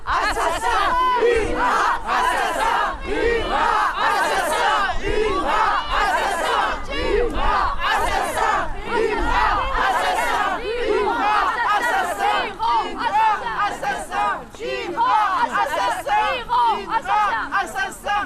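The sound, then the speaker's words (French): A large angry crowd roars and shouts continuously, many voices overlapping in loud, agitated clamor with sharp outbursts rising above the din throughout, reacting as footage of a boy's kidnapping is shown on a giant screen. “Sur un écran géant, les images de l'enlèvement de son garçon sont diffusées, provoquant un frisson de colère dans la foule.”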